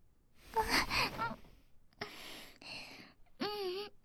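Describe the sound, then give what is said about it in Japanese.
Soft, airy breaths blown very close to the ear, a few separate puffs and sighs, followed by a brief voiced gasp at the end. No words are spoken. “吐息が耳に当たって。”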